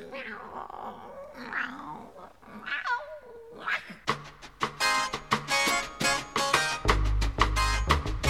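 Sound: cat meowing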